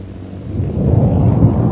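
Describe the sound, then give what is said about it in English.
A deep, rumbling blast from Holbrook's second bomb swells up and rolls on for over a second, a heavy low roar that grows louder toward the end with no voices. “That explosion we just heard was Holbrook's second bomb.”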